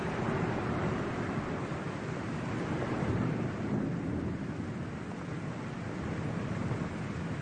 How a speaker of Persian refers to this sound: بارون شدیدتر شده.